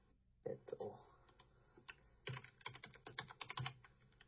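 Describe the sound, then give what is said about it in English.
Rapid clicking of computer keyboard keys in irregular bursts, fairly clear, with a short pause in the middle before another flurry of keystrokes; faint background murmur but no clear talking. “I hear keyboard”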